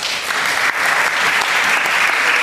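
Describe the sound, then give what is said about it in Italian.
A crowd applauds steadily and loudly for a couple of seconds, a dense wash of overlapping claps with no pauses and no voices standing out. “Facciamo un applauso.”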